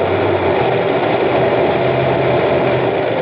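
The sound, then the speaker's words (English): A rough-running car engine that has gone too long without a tune-up idles, a loud, continuous rumbling drone with a slightly uneven low throb throughout and no voices. “Going too long without a tune-up.”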